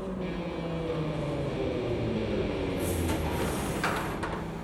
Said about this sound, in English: Before Sally could respond, a hum sounded. The train slowed. They'd arrived.